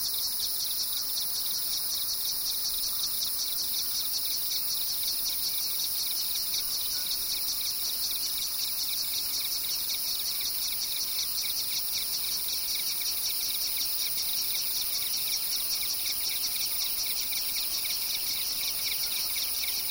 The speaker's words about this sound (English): In the lower valleys, we always heard crickets and cicadas. They hummed and buzzed and made complex phasing rhythm patterns.